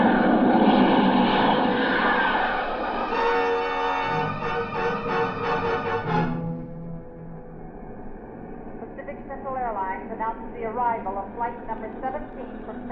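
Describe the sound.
A jet airliner, Pacific Central flight 462, roars loudly as it lands at Los Angeles, with a rising engine whine that cuts off abruptly, then a quieter engine hum as it taxis up to the ramp while a voice talks over it.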